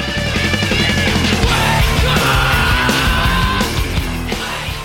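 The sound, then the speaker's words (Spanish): Loud, dense song with a man screaming his vocals over heavy, distorted instruments; the music fills the whole stretch at a steady, intense level without pauses. “¿Este chico que está cantando en los otros discos es igual? Sí, siempre hacen esto. Siempre en grita.”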